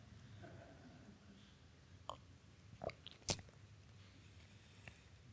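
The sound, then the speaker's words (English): Someone takes a quiet sip of a drink, with a few soft wet clicks and a small slurp-like squish over a low background hum. No one speaks. “This is a good point for me to take a sip of this drink.”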